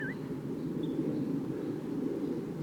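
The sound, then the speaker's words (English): A bird, 8-5, responds with a couple of soft, brief calls: a quick rising chirp at the start and a fainter high note shortly after, over a steady low rumbling background. “8-5 is responding with some soft calls. That's bird 8.”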